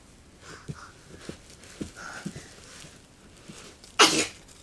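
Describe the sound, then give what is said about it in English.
A single sharp, loud sneeze bursts out near the end, after several seconds of quiet background noise with faint soft taps. “God bless you.”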